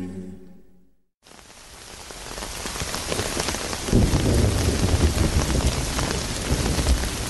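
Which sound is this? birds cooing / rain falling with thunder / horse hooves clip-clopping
rain falling with thunder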